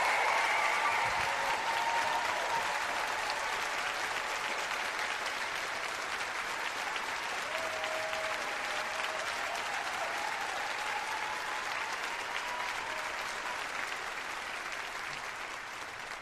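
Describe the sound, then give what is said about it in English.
Sustained applause from a large audience in the Bay Area for Barbara Lee, a dense wash of clapping with a few cheers and whistles at the start, holding steady for about sixteen seconds before easing slightly toward the end. “Please give a warm Pod Save America applause to Barbara Lee.”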